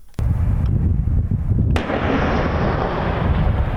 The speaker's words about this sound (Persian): صدای توپخانه ارتش اسرائیل که جنوب لبنان را هدف قرار داد. منطقه هدف قرار گرفته موازی اطراف روستای الماشعب است.